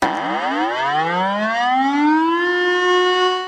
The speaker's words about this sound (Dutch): Sirene of niet, daar gaan we.